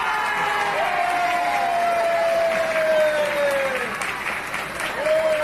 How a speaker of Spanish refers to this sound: Estos son los aplausos de los vecinos, de los curiosos, porque vamos, fue todo un espectáculo.